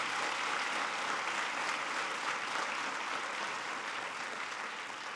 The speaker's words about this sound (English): I noticed some of the parents were the first to clap. They're all like, yeah. They like that.